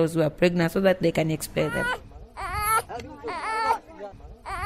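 A baby boy who has just woken in his crib cries for attention in short, fussy bursts that rise into longer, wavering wails, fairly loud, with no one else speaking.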